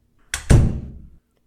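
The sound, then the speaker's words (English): A door shuts: a short sharp click followed at once by a heavy thud that rumbles and fades within a second. No one speaks. “Please, close the door on your way out.”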